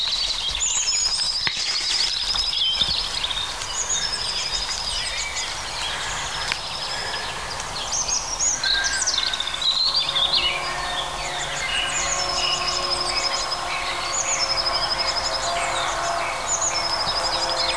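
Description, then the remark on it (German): European robins sing against each other, outdoing one another in overlapping, warbling phrases, steady, with a faint background hiss; a blue tit's very high, rhythmic, trembling repeated notes join in toward the end. “Also die Rotkehlchen übertrumpfen sich gegenseitig.”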